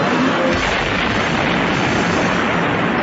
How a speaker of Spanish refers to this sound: Ya en la noche, 8 horas después de la incursión del M-19, el disparo de un tanque en la puerta del Palacio de Justicia estremece la edificación, como lo recuerda el entonces presidente del Consejo de Estado, Carlos Betancourt.